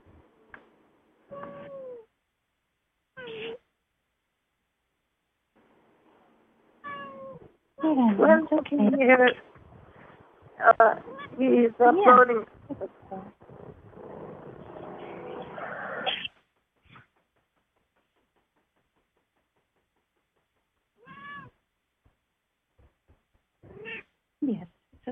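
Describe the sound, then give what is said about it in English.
A cat named Molly meows repeatedly on a conference call. Short calls are separated by pauses, and a loud, drawn-out stretch of yowling and meowing runs through the middle before a few quieter meows near the end. “Welcome to the call, kitty cat.”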